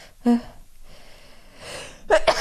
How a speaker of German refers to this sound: Oh, ich muss, glaube ich, niesen.